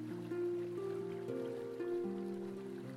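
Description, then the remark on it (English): A steady wash of pouring, rushing waterfall water fills the background at moderate volume, while soft sustained musical tones shift slowly in pitch over it. No one speaks. “So take a deep breath, and when you're ready to release it, step into the powerful flow of the waterfall.”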